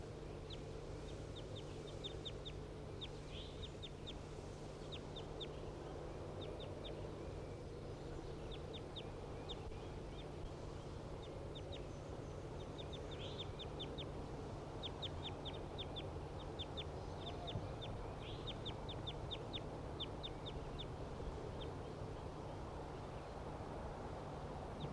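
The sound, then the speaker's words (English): A wild bird right above the cages calls over and over in quick bursts of high, thin chirps, repeating steadily throughout against a constant low background hum, with no one speaking. “The wild bird right above the cages.”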